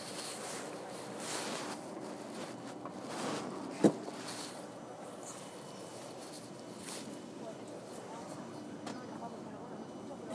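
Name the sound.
train carriage ambience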